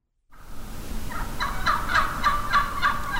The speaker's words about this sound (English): Wild turkey hens are pecking some kind of goody out of our lawn this morning and vocalizing.